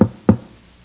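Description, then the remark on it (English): Two solid knocks on a wooden door, fairly loud, spaced about a quarter second apart, with a short dull resonance after each and quiet in between. “I knocked on those doors”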